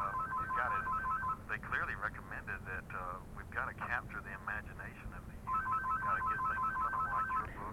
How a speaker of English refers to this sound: Got another call coming? Oh no, that's a home phone. I'm on a different line.